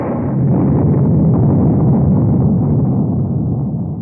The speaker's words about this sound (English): And it's starting to thunderstorm.